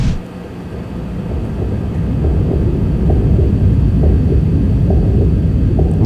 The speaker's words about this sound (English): This is ominous. Yeah. Heartbeat, little gurgle going on.